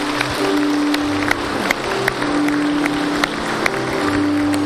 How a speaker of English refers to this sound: We can all clap. Yes.